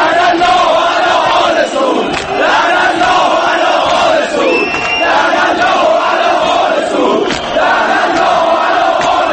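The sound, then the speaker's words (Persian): A dense crowd of Basij members at Azadi Stadium, Iran, during a Wednesday football match roars and shouts political slogans in unison, a loud sustained wall of many voices with rhythmic surges, rising and falling throughout. “بسیجیان در چند هفته گذشته از برخورد تند نیروی انتظامی گلایه داشتند، اما سازماندهی آنها و افزوده شدن بر تعدادشان در بازی روز چهارشنبه نشان از مدارای نیروی انتظامی با بسیجیانی داشت که دیپلماسی رسمی جمهوری اسلامی را این بار در استادیوم‌ها فریاد می‌زدند.”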